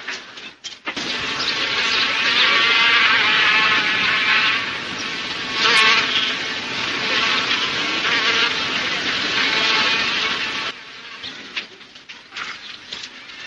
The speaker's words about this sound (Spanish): Señor, su coche tiene muchas moscas. Sí. Está lleno de moscas.